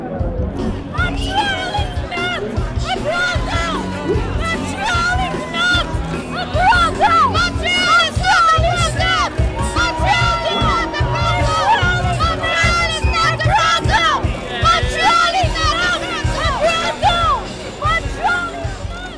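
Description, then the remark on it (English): Dense crowd chatter at a sports car event with very loud music and photographers, as people try to get their pictures taken next to an Alfa Romeo; many overlapping voices, loud and continuous throughout with occasional raised voices poking out of the babble. “Everyone is trying to get their pictures taken next to the Alfa Romeo, but there are a few more photographers here than normal.”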